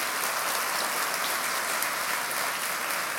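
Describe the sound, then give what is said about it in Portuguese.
A church audience applauds the teachers steadily, many hands clapping in a dense, continuous wash of sound that holds at an even level throughout, with no voices heard. “A igreja pode dar uma salva de palmas aos professores.”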